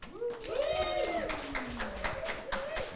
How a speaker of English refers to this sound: please whoop and clap now